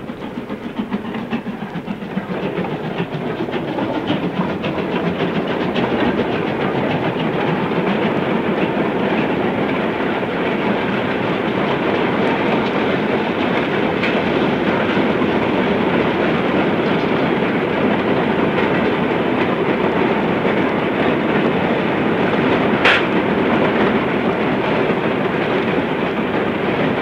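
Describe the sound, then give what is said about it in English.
A train rolls in along the railway tracks just before midnight, a loud, continuous rumble with rhythmic wheel clatter and hissing, swelling early on and holding steady, with a brief high squeal near the end. “Now we're very close to midnight, and now I think here comes our train.”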